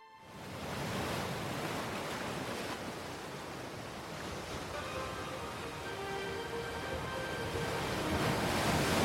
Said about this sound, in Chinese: 茫茫大海上，波涛汹涌，夜空幽暗，不见半点星光，就连远处的灯塔也忽暗忽明，微弱迷离。一艘货船正在风浪中艰难行驶，船头飘扬的旗帆在狂风中猎猎作响。